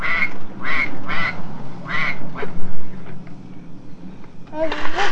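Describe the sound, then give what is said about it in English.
A duck quacks several times in quick nasal bursts, pauses, then lets out another rapid cluster of quacks at the end, loud over a low background hum. “Here is a duck.”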